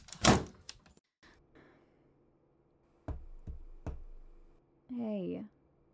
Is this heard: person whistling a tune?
no